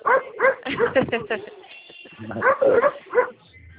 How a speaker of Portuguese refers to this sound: Moço, o cachorro tá bravo aí, não tô nem te ouvindo direito.